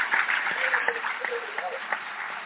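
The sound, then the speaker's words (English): An audience applauds Ta-Nehisi Coates and James Bennett at the close of their conversation. It is a steady, dense wash of many hands clapping at an even loudness throughout, with faint voices mixed into the noise. “Please join me in a warm round of applause for Ta-Nehisi Coates, for James Bennett.”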